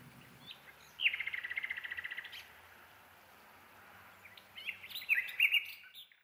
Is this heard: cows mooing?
no